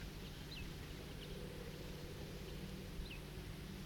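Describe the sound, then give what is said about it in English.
A few faint, sharp bird alarm calls ring out at irregular intervals, thin over a steady rushing wash of creek water at Cataract Creek. “That bird is giving alarm calls.”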